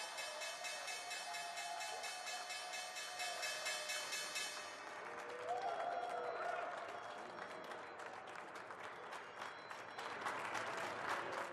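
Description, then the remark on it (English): A stock exchange opening bell, rung by a SPAC listing on a Thursday morning as stocks open, rings continuously with a bright, sustained metallic tone for about four seconds, then gives way to steady, dense applause from a crowd that carries on to the end. “All right, we got a SPAC listing here this morning ringing the opening bell on this Thursday as we see stocks open up a little bit higher.”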